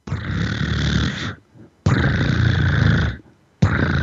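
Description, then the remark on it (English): A person imitates a cat's purr at about 25 hertz, the tongue going back and forth 25 times a second, with loud, rough, rumbling bursts, each about a second long, separated by short pauses for breath, the third cut off at the end. No speech. “And that would be, if you want to hear that, just do a kitty cat purr.”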